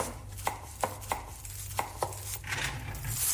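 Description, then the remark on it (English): A knife chops food on a cutting board in a kitchen, preparing borscht, a traditional dish for a shared meal: five crisp, unevenly spaced knocks, followed by a brief scraping rustle, all over a low steady kitchen hum with no talking. “I'm going to end with one of those sounds from a kitchen and a shared meal.”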